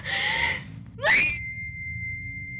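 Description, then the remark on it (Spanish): A loud burst of noise gives way to a woman's sharp, rising scream as she loses her balance and falls to the ground. The scream cuts off abruptly, leaving a thin, steady high-pitched ringing tone that lingers to the end. “Pierde el equilibrio, cae al suelo y pega un grito con todas sus fuerzas.”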